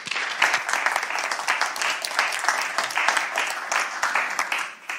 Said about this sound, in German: Bitte eine schöne Runde Applaus für Matthias Schulze.